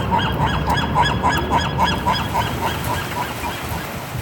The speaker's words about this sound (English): Seagulls in Santa Barbara.